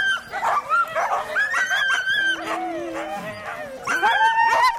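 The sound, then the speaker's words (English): A sled dog team barks, yips and whines at once while being hooked up to the sled, a frantic, overlapping chorus, loud, with high excited cries and a few howl-like notes running continuously throughout. “All that excitement and noise and chaos hooking up, and you pull the hook and it's just instant silence.”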